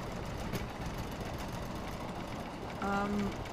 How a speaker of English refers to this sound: How often does that train pass by the window? About once every 5 minutes.